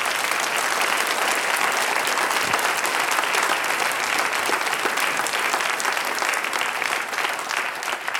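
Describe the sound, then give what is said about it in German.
A crowd applauds a family singing group for winning the Hermann Haselsteiner Prize, clapping steadily for several seconds, a dense, even wash of many hands with no pauses and no voices standing out, holding at a consistent loudness throughout. “Das ist ein besonderer Applaus wert.”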